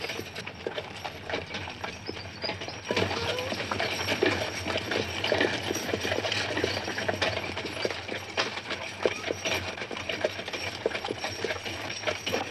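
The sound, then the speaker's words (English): A horse's hooves clip-clop steadily along a hard road at a walking pace, the rhythmic clatter continuous over a busy outdoor background, with no one talking. “Scotty, walk now. Why horses? Because they're slow.”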